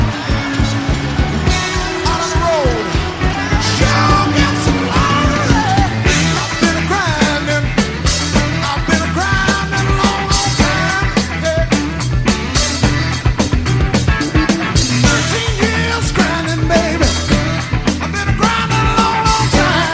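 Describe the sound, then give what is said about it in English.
A basketball arena crowd roars and cheers without letup for the whole stretch as the game goes to overtime, with shrill yells and sharp squeaks cutting through the dense wall of noise. “Listen to this crowd.”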